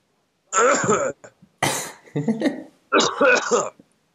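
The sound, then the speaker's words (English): A loud fit of throaty coughing and throat clearing comes in about three harsh bursts with short gaps between them. There is no talking. “you just coughed up a Champions League semi-final on me.”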